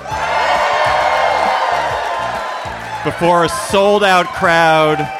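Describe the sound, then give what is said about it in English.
A sold-out live audience at the Bell House in New York cheers and whoops in a loud, continuous roar, with a strong voice rising over the noise in the last couple of seconds as the crowd carries on. “We're live at the Bell House in New York before a sold-out crowd.”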